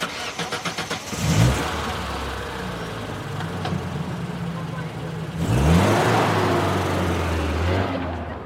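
A pickup truck engine cranks with quick rhythmic pulses for about a second, catches and settles into a steady low idle, then revs up loudly once before idling again.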